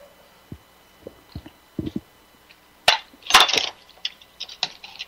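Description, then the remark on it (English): Someone takes a drink of water: soft low thumps and clunks of a cup or bottle being handled, then a brief burst of bright clattering and clinking, with no talking. “I'm going to take a drink of water here and then we'll get started.”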